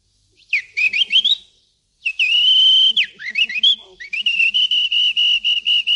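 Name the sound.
whistled bird call imitation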